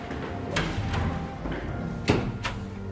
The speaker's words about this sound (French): Voilà, on arrive avec cette porte automatique.